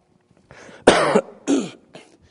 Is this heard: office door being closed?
no